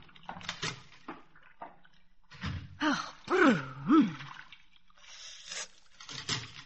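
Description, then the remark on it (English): Freezing cold water is poured into a wash bowl for washing up in uneven, splashy bursts at the start and end, with a few breathy gasps and low, wavering groans in between. “There's the bowl, and here's a towel. Let me pour it for you.”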